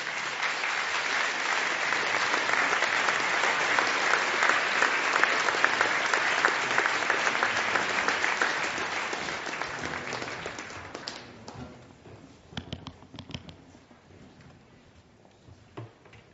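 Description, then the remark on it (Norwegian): An audience applauds top politicians invited onto the podium for a debate, with dense, steady clapping for about ten seconds, then it thins out into a few scattered claps before fading away. “Det krever litt mot av de her toppepolitikerne våre, så jeg foreslår at vi gir dem en applaus og får dem opp på podiet.”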